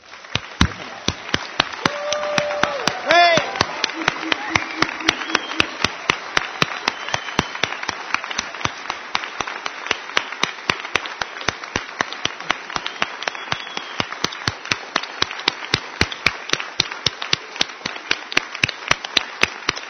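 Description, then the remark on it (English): An audience applauds a group of people being thanked, steadily for about twenty seconds, a dense wash of clapping with sharper individual claps standing out, and a few brief voices or whoops near the start. “So let's applaud all these people.”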